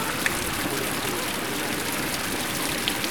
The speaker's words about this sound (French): Et derrière, il y a un moulin à eau qu'on entend.